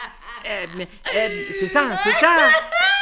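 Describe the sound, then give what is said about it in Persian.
A person cries and sobs loudly, with quavering, wailing rises and falls that run almost continuously for a few seconds, broken only by short catches of breath. “چه گریه میکنی؟”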